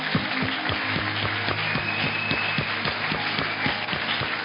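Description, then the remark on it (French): An audience applauds God during a worship service in a dense, steady wash of clapping with some rhythmic beats running through it, holding an even loudness for several seconds. Faint sustained tones sit underneath, and no one speaks. “Là, nous avons applaudi.”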